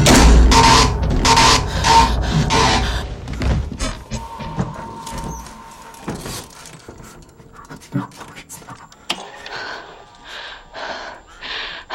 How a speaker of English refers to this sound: I just watched as the bedroom door opened and closed of its own volition.